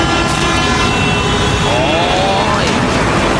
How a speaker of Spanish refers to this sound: ¡Oh! Anda harto vehículo. ¡Hola! La gente pasa saludando aquí.